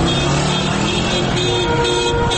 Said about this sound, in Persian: در تهران حالا هوا رو به تاریکی رفته و معترضان کم کم به خانه هایشان بر میگردند. خبر کشته شدن 2 نفر دهان به دهان پیچیده و معترضان عصبانی هستند. دستشان را روی بوق ماشین هایشان گذاشتند و همزمان فریاد میکشند.